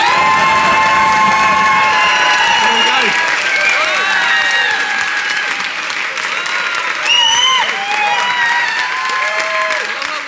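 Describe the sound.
A crowd applauds loudly and steadily for about ten seconds, with cheers and whoops rising above the clapping. A voice speaks briefly over the noise.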